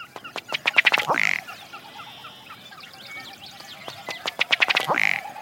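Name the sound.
ruddy duck call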